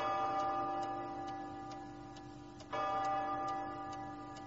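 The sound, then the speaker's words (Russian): Several clocks tick in a steady, even rhythm over a sustained ringing hum, with a fresh chime-like swell midway through. No voices, just the regular ticking. “«Все мои часы хорошо идут, поэтому я ничего против этого не имею».”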